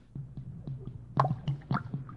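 A drink, a highball, being poured at a bar, heard as a series of irregular liquid glugs and gurgles over a low steady hum, growing louder and splashier partway through.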